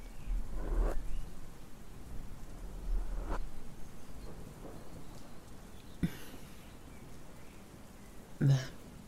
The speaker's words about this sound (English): You know, one thing I couldn't help but notice is that you don't have a raincoat on when it's just pissing it down with rain.